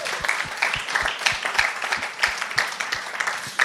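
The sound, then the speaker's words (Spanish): A church crowd claps hands together for the Lord at the preacher's call, in a steady, rhythmic beat, many palms striking in unison at a brisk pace, filling the room with lively, sustained applause. “¿Cuántos le dan palmas al Señor?”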